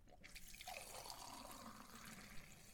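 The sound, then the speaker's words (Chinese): Drinking water is poured steadily into a cup for a teacher, a continuous splashing trickle that rises in pitch as the vessel fills, with no one speaking. “好的吧，老师您先坐一会儿，我去给您倒水拿药。”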